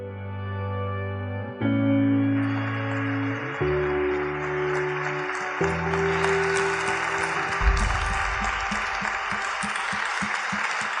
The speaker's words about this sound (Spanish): Más fuerte ese aplauso para Jesús. Que todo lo puede.